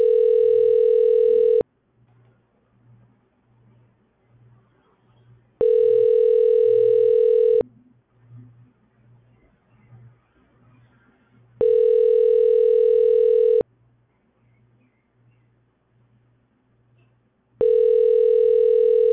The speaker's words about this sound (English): So what you see here, a call has come in, and what you see is a call that's ringing. Calls will automatically be routed to agents, and you will just simply answer.